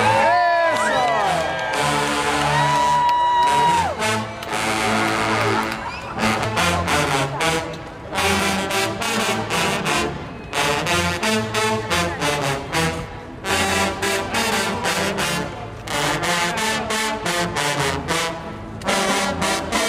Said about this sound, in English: And after yesterday's service, as his casket was carried out, dozens of trombonists who had gathered outside made their instruments roar in tribute.